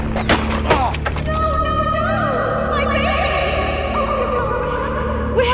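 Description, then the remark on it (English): A bike crashes after its rider loses control: a loud clattering crash with a couple of sharp cracking impacts at the start, followed by a sustained ringing, humming drone with wavering tones for several seconds. “I just lost control of my bike and crashed.”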